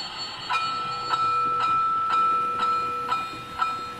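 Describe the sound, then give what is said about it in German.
A model railway train runs along its track with a steady high electric motor whine and regular light clicks about twice a second as it passes over rail joints, with no voices. “Ja, das, ab und zu gehe ich mal bei, schalte das Ding mal an, dann läuft das mal 5, 6, 7, 8 Runden und dann mache ich es wieder aus.”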